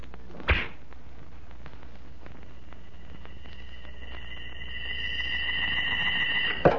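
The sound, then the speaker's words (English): An arrow loosed from a strong bow with a rawhide string, bent almost to the breaking point: a sharp twang, then a thin high whistle that swells steadily louder before ending in an abrupt strike. “A gleaming arrow set against a rawhide string. A strong bow bent almost to the breaking point.”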